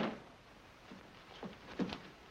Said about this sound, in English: Lock the door